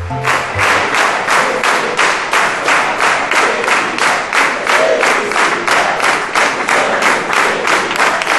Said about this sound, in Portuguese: Palmas pro seu Walter.